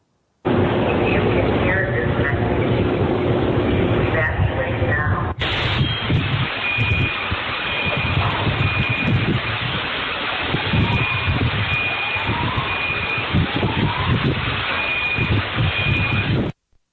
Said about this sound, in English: And that was a sound from the moment of the explosion that occurred this morning. Police had begun evacuating residential buildings in the neighborhood located at 2nd Avenue and Commerce in Nashville when the RV exploded.